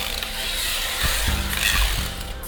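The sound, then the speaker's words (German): Light brown packing tape is pulled off a roll in a steady, rasping screech, with a few short bursts and tugs around the middle, as cartons and bags are taped into green woven sacks as travel parcels, with ongoing city street bustle underneath. “Das ist der Sound dieser Stadt. Klebeband.”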